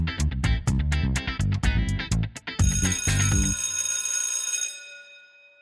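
A school bell rings loudly in a rapid string of strikes for a couple of seconds, then holds a bright, sustained ring that slowly fades away. No one speaks.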